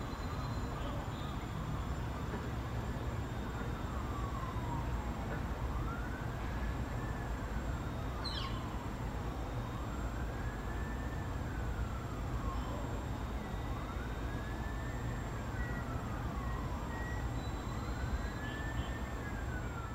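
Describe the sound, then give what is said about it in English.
An ambulance or police car siren wails in slow, repeating rise-and-fall cycles throughout, half-buried under a steady roar of street and traffic noise, with a brief high chirp partway through. “And then I hear a ambulance or the police car sound that is very constant in the background.”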